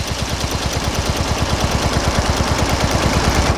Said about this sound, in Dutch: De ventilatoren draaien hier op volle toeren.